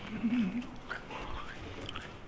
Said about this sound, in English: Oh, this will sound great when recorded, right? The sound of crunching.